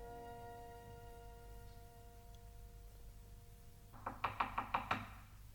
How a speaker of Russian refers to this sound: Кажется, стучат. Кто бы это мог быть?